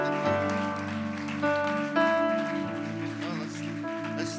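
Steady applause from a standing church audience, a dense patter of clapping hands, sounds throughout beneath sustained, held musical chords as a pastor comes up to speak, with a brief voice rising near the end.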